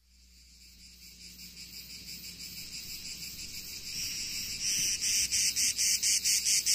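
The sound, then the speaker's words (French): Cicadas buzz on a fine summer day in the south, among cypresses and lemon trees, in a dense, high-pitched drone that swells steadily louder, breaking into rapid pulsing rhythms toward the end, with no voices present. “Une belle journée dans le sud de l'été, les cigales, les cyprès, les citronniers, une odeur de lavande, de thym, de romarin se mélange enivrante à l'air marin.”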